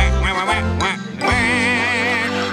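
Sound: duck quacking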